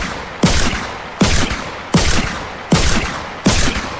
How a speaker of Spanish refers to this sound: Cuando los disparos finalmente cesaron, era imposible determinar o ver si el soldado había errado todos los tiros, si habían sido repelidos por la piel de la criatura, o si simplemente la atravesaron como si de un fantasma se tratase.